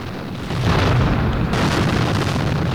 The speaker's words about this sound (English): Reaching a dead end, Yusef runs over to a window just as two vehicles parked outside suddenly explode.